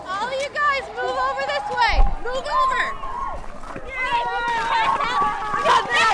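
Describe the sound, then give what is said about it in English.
A crowd of seventh-grade students on a day-long cold water safety course shouts and calls out excitedly, not in panic, along the waterfront. The high-pitched, loud voices overlap in a steady babble, with a brief dull thump partway through. “Those shouts are excitement, not panic, and the students seem well focused on what they're learning, both here along the waterfront and down in the harbor.”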